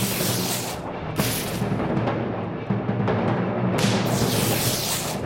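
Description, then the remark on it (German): Loud thunderclaps drawing nearer crack and roll in a continuous low rumble, with sharp, bright bursts at the start, after about a second, and again near the end. No one speaks. “Die Donnerschläge kommen näher und amüsieren sich damit, die Himmelsrichtungen zusammenkrachen zu lassen.”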